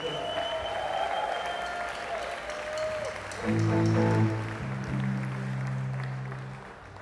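A concert audience in Birmingham claps and cheers steadily throughout for everyone who played that night, a dense wash of applause with a sustained low musical chord or drone swelling underneath partway through.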